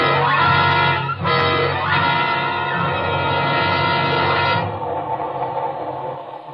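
A train runs loud, a steady rolling rumble with droning, whistle-like tones over it and a couple of brief clunks, easing off and thinning out toward the end.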